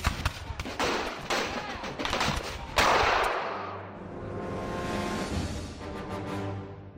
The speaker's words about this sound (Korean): 영국군이 두 번째로 언덕으로 올라왔고요. 아메리카 군대는 다시 총을 쏘았습니다.